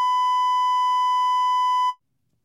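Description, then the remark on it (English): A single steady censor bleep tone, set off with a button to cover cussing, loud, holding one pitch for about two seconds before cutting off abruptly into silence. No voices are present. “I have my button ready for when I want to cuss.”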